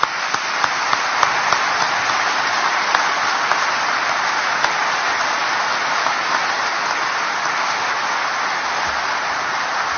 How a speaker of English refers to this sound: So let's give Mike and the entire Gilday family a round of applause.